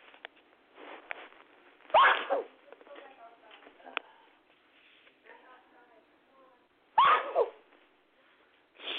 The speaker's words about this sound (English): I'm sorry, this weather is just causing me to sneeze and get so stuffy.